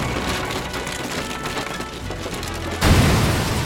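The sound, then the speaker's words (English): A water tower next to a barn falls and crashes into the wooden barn: a loud, sustained crash of splintering wood and crunching debris, with a heavier booming impact near the end that intensifies the noise; no voices. “The large container fell and crashed into the barn.”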